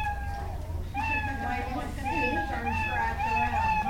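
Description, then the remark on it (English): A synthetic-sounding cat meow from an on-screen cat that girls made meow in their first computer program repeats several times in a steady sequence, tonal and clear, over a constant low background hum with faint noise. “But the real excitement comes when they figure out how to make the cat meow.”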